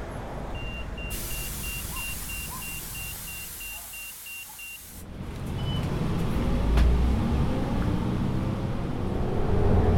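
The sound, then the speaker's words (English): Inside a route 168 city bus on a morning commute to work: a steady series of quick electronic beeps sounds over a low interior hum, then the engine and road rumble swell louder as the bus pulls away. “Do some online shopping for the house since I'm on the bus and have checked my email from work and I'm all caught up.”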